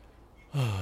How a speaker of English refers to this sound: I'm still yawning, which is strange.